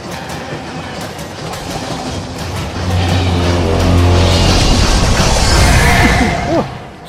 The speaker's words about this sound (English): a choo-choo train coming after you.